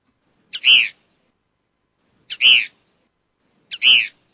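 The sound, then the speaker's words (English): Three harsh, high kingbird screeches, evenly spaced about a second and a half apart, each opening with a brief tick before a raspy, buzzy burst. No voices, only quiet between the calls. “We got the kingbird. Kingbird. This one has just one little screech here.”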